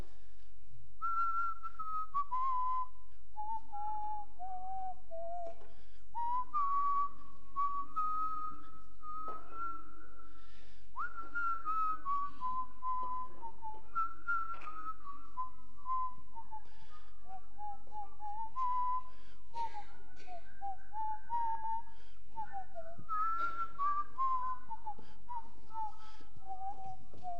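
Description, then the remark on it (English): A crowd whistles a wandering melody together in unison, the tune rising and falling steadily for nearly half a minute, slightly ragged and uneven with no voices speaking. “You guys are pretty good at that. Well, some of you. Some of you shouldn't be whistling.”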